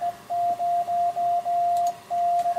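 Steady high-pitched Morse code tones keyed in a rhythm of short and long beeps, fairly loud, over a faint hiss of radio static with no voices, sent by amateur radio across the Atlantic from a station in a tent near Ardrossan Harbour, call sign GB2ZE, with a massive antenna on the roof.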